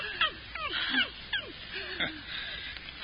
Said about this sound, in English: Get that dog away. Anything. Get that dog away. All right, down, Butch. Butch, stop it. Stop it.